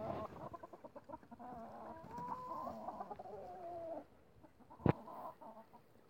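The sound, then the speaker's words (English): Chickens cluck in a steady, overlapping stream of soft throaty calls for about four seconds, then fall quiet before one sharp, brief knock near the end. “You birds know you're not supposed to be hanging around in the woods over there, right?”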